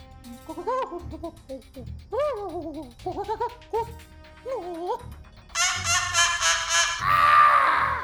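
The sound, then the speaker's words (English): A bird squawks and chatters in a rapid string of warbling, bleating calls, ending in a loud, harsh burst of screeching squawks. No one speaks over it. “So I'm still rusty on my bird translations, but if I heard him correctly, it said that there's trouble at the Tiki Room.”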